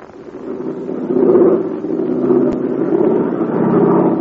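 Bud Hennig's American-made airplane, flying over the invaders' lines and dodging anti-aircraft fire, drones steadily for about four seconds, a low, buzzing engine hum with layered tones that swells slightly after the first second and holds, with one brief click midway and no voices.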